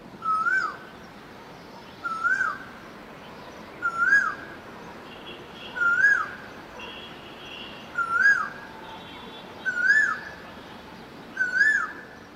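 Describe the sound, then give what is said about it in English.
A koel, a kind of cuckoo, calls over and over high above the trees and a city, each loud, rising whistled note repeating about every two seconds, seven calls in all, over a soft, steady background hum. “What kind of bird is a koel? It's a kind of cuckoo.”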